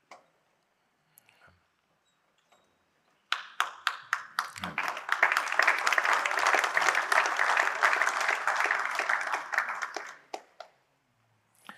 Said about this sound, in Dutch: U klapt terecht, want het is een hele stap.